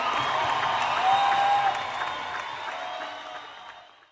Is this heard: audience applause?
yes